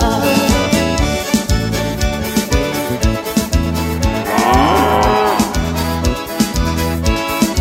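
A drawn-out cow moo rises and falls midway through, layered over a steady, bass-heavy music beat that plays loudly throughout.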